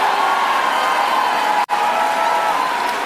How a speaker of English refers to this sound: All this stupid clapping.